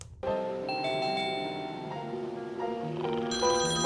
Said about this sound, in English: Hang on, I'll get it. Oh, man, is that the phone I think it is?